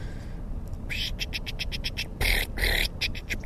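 A marsh wren calling from the reeds at the Alamo River Wetlands Project in Brawley, California, gives a rapid, buzzy series of chattering notes, repeated in quick pulses with a couple of louder bursts, over a low outdoor rumble with no talking.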